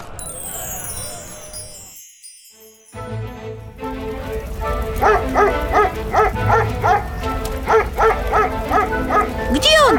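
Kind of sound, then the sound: animal, dog barking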